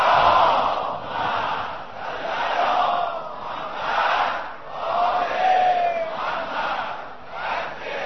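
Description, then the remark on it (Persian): A large Shia crowd loudly chanting salawat in unison for the souls of the departed, many voices rising and falling together in steady, repeated surges that swell and dip every second or so, sustained throughout. “تنها فرقه ای که دیدم که اینجور صلوات بلند میفرستن بچه شیعهان. بنابراین به روح همشون بلند صلوات بفرستن.”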